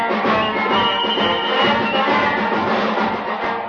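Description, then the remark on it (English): A loud, full band plays march music, put on to collect a crowd after a mayoral campaign speech, with a dense, steady blend of brass and percussion that holds at an even volume throughout, with no one speaking over it. “Okay, boys, put on the march music and we'll collect another crowd.”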